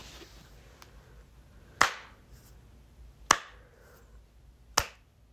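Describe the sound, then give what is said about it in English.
Three slow, evenly spaced hand claps, each a sharp, loud smack with a short ringing tail, separated by quiet pauses of about a second and a half. No one speaks. “A round of applause?”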